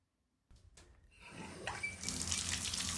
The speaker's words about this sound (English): In the shower at last, he braced himself against the shower wall, resting his head against his forearms.